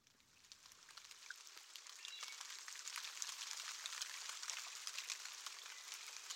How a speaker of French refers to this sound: Voilà. Il pleut. La saison des pluies.